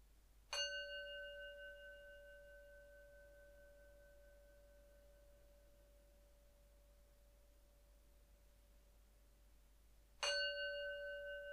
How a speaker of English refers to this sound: We're going to do a 20-minute guided meditation, thinking about our sadness. And we'll start with three sounds of the bell and the usual settling in introduction.